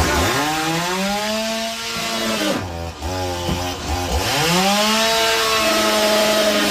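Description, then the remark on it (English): A loud chainsaw roars steadily, then its engine drops and labors for a couple of seconds as the blade bites into a television, before revving back up to full whine. No voices. “The latest example, Team USA beats Team Canada, and some Canadian fan of Team Canada decides to take a chainsaw to his television.”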